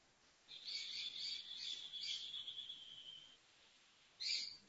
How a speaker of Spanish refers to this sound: Los pájaros de mi casa que dicen buen día y se suman.